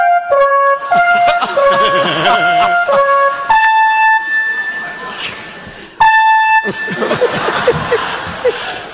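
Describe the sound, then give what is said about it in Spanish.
An alarm connected to the fire department rings loudly with shrill, stepped electronic tones that shift pitch, then hold a long steady note before starting again, while voices talk and chuckle over it. “Este estaba conectado a los bomberos. Y se la alarma sobona.”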